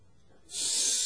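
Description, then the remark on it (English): A brief pause, then a voice imitates a snake with a loud, steady, sharp hiss that starts suddenly about halfway through and holds to the end. “You listen for the hiss.”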